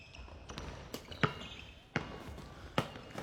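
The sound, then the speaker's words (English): A basketball smacks against a glass backboard, several sharp, loud impacts at irregular intervals with softer thuds between, over a steady low background hum. “You shouldn't be hitting the glass, though. You should be getting the ball in the basket.”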